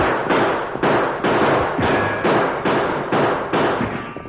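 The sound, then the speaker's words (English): A rapid volley of gunshots from an arroyo up ahead, roughly ten loud, sharp cracks fired at a steady pace, each one ringing out briefly before the next. No one speaks. “Shots come from Arroyo up ahead. Throw a few shots that way, Tonto.”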